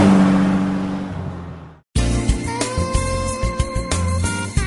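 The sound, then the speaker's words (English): A car engine roars past at speed, its broad rushing noise fading away over about two seconds before an abrupt cut to music. “A car travelling at 80 kilometres an hour uses half its fuel to overcome wind resistance.”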